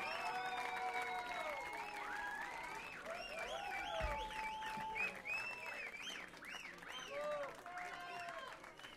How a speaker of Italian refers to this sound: che vengono da terra terremotata, dall'Aquila, un applauso ancora.